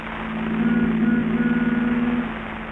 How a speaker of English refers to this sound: The Benny rehearsal has just finished, and Phil is driving Jack home in his new convertible.